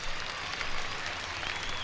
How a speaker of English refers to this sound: And I'd like to say I appreciate the way you've been acting. Why don't you give yourselves a great big round of applause? You're beautiful.